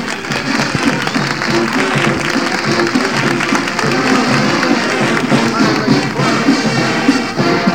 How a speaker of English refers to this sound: The applause. I guess you heard the applause.